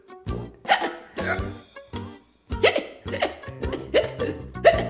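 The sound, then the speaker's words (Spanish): A run of sharp hiccups, around eight or nine of them in an uneven rhythm, each a short voiced gulp with brief pauses between. “¿Cómo nos quitamos el hipo?”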